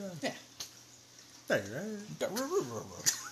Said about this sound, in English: Yeah. It's a dog.